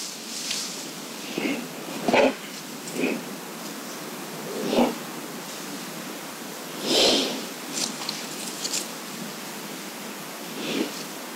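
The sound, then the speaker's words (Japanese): A bear sniffs around the microphone at about 7:30 at night, roughly two hours after the microphone was set up: a series of short, breathy snuffles and snorts at irregular intervals, some louder than others, over a steady background hiss. “マイク周辺の匂いを嗅いでいるようです。”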